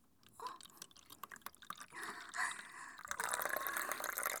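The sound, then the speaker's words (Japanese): Urine pours into a paper cup, starting as scattered splashy spurts and building into a steady, hissing stream that grows louder and fuller toward the end and spills over, with no talking. “あ、すごい上手に紙コップに入ってる。あ、こぼれちゃう、こぼれちゃった。”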